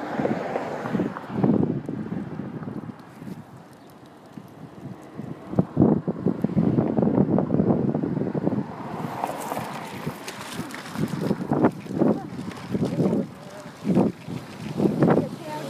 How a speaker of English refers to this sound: It's a little windy, but it's nice out.